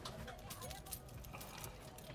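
Keys to an old car jangle in short, bright metallic bursts, fairly quiet, as they are searched for before starting the car. Faint background murmur sits underneath.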